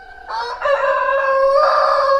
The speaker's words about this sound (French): Et celui-là qui fait l'important sur son fumier, avec ses pattes emplumées, sa queue en faucille, son jabot doré, sa crête en panache, c'est le coq.